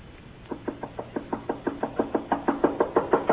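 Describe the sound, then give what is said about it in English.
Rapid, steady knocking on a door, around sixteen sharp raps in a row that grow louder and more insistent toward the end, with no voices. “Open that door!”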